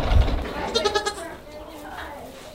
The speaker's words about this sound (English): Naughty little goats. Bumping into the camera. The one Buttons is like eating my, you can see my strap there, my Canon camera strap, and Buttons is like trying to eat it.